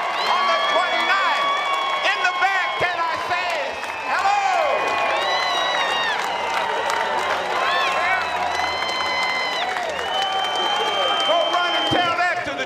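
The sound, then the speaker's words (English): A huge rally crowd roars and cheers continuously as the program is handed over to Joe Madison, with scattered whoops and whistles rising above a dense wash of clapping, loud and sustained throughout. “Somebody go tell Glenn Beck there are more people here right now than there was.”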